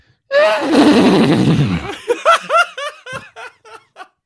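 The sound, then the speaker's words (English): A man on a FaceTime call from a loud conference holds his phone up close and imitates a horse neigh: a loud, wavering high whinny that breaks into a series of short, choppy snorting bursts trailing off over about four seconds. “horse impression's like unbelievable”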